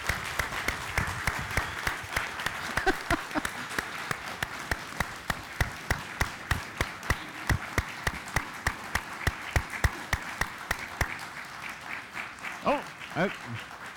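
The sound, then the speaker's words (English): A crowd claps loudly and steadily for about fourteen seconds, trying to get her to respond as she loves hand clapping, the sharp hand claps dense and continuous, with brief voices rising faintly near the end. “You guys are going to have to clap really loud.”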